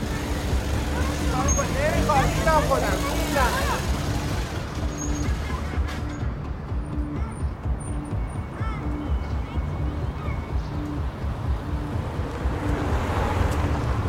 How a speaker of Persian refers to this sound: پسر بهروز با موتور میاد سمت خونه